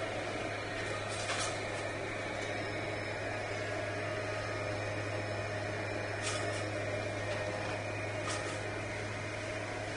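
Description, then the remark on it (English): A leaf blower passing by outside in the morning drones on steadily at a fairly low level, a continuous motorized whir with a low hum underneath and no speech. “I think we'll have to take a break here for a second while the leaf blower goes by.”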